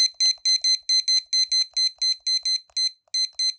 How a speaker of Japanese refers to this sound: キッチンタイマーも持ってきてるので、ちょっとこれも先に合わしときます。20分だから。